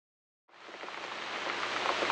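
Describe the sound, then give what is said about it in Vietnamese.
After a short silence, rain begins: a steady hiss with scattered large, heavier raindrops pattering on the ground. It builds slightly over two seconds, at moderate volume and with no voices. “Bóp! Một giọt mưa lớn rơi xuống đất, cách chỗ họ chưa đầy một gang tay.”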